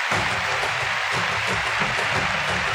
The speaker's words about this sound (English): And that applause is for the dancers, who are now leaving the stadium.